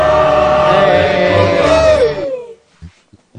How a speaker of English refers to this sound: Big cheer for the return of Robert.